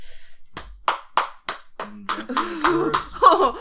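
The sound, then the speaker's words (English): A leather-covered scabbard slaps against skin four times in a steady rhythm, each smack sharp, followed by a voice reacting with vocal sounds and laughter. “It's a leather-covered scabbard.”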